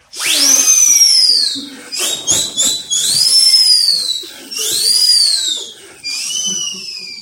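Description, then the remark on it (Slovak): High, shrill winds from all four directions whistle in a violent storm at sea, in rising and falling swells, about four gusts in a row, with a rough rushing burst between the first two. “Štvorot vetrov zrazu zahvižďalo v prudkej búrke.”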